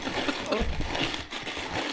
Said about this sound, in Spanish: ¿Cómo se llama esto? Esto es un molinillo de café.